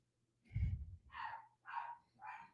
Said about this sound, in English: Okay. My dog is barking again because my wife is just not coming up.